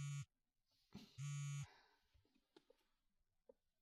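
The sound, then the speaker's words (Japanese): A smartphone buzzes on vibrate with an incoming call, two loud, harsh pulses about a second apart, followed by a few faint clicks and rustles in otherwise quiet surroundings. “あ、私のスマホ？みつきちゃん。何かしら。”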